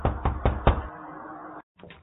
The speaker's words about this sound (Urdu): ابھی رات کی چند گھڑیاں گزری ہوں گی کہ کسی نے دروازے پر دستک دی.